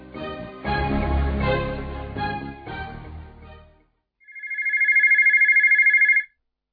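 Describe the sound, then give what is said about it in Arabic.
A telephone rings with one sustained, warbling electronic trill, loud; it is the manager's line ringing. It follows a stretch of busy, cluttered clattering sounds that fade into a short silence before the ring. “رجع تليفون، قد كده مركزة في الشغل. ياه ده خط المدير. ألو، صباح الخير يا فندم.”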